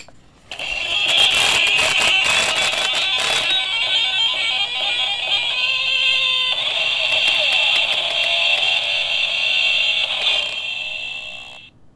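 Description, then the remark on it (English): A tinny, buzzy electronic metal riff on electric guitar blares from a musical greeting card's tiny speaker as the card is opened. A thumb is held on it to keep it from vibrating. The sound is harsh and rattling, with choppy bursts early on before settling into a steady, shrill loop. “as you open the card, it begins to play this metal riff with the whole thing vibrating back and forth”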